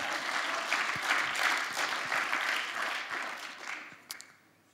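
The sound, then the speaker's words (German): A crowd applauds a person lying down to play the victim in a demonstration, with dense, steady clapping that holds for about three seconds, then thins out and fades, with a few last scattered claps near the end. “Ein Applaus für unser Opfer,”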